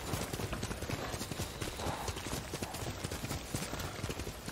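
Horse hooves clip-clop in a steady, rapid rhythm, the sharp repeated strikes filling the whole stretch over a constant background rumble.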